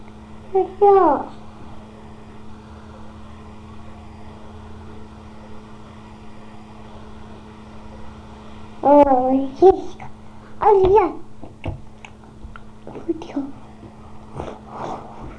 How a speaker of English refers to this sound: Those are the kids. Kids playing at the school.